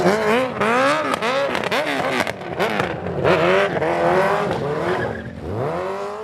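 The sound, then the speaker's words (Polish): A sports motorcycle doing a burnout at a motorcycle picnic stunt show by the Stand Rzeszów stunt team: the engine revs hard in rapid rising and falling bursts while tires squeal and hiss against the pavement, loud, continuing steadily with no voices. “Waszą specjalnością są wyczyny kaskaderskie i uczestnicy motopikniku mieli tu okazję zobaczyć palenie gumy, jazdę na tylnym kole.”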